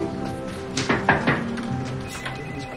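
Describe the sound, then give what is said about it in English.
A few quick, sharp knocks on the glass of a glass-walled office, rapping in a short burst over a steady low background hum. “He strides up to a glass-walled office and knocks.”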